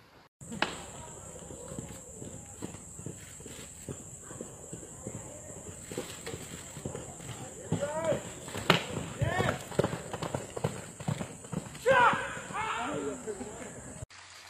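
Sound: horse hooves clip-clopping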